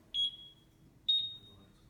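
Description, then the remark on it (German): A machine gives two short, high-pitched electronic beeps to signal that it is ready. The beeps are spaced about a second apart, each a clear steady tone that fades out, over faint low background noise. “Die Maschine meldet sich, ist jetzt bereit.”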